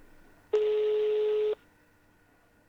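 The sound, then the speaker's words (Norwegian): A single steady electronic telephone tone sounds for about a second at moderate loudness as a call is placed to Einar Gelius, then cuts off, leaving quiet line hiss before a faint click near the end. “Da vi ringte Gelius og hørte hvordan det gikk.”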